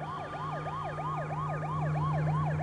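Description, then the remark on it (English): A wailing emergency siren, heard down a road as a police car approaches, rises and falls in a rapid, steady cycle, growing slightly louder over a constant low engine hum, with no voices present. “He takes small steps backwards as he looks down the road toward the sound of the sirens.”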